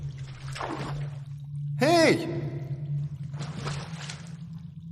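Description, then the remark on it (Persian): Water is poured in one short, loud splash lasting under half a second, between bursts of talking, with a steady low hum running underneath throughout. “با یکم آب چطورت نمیشه؟”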